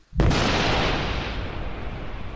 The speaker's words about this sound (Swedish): En skarp knall fick henne att hoppa högt. Ovädret skulle snart vara över dem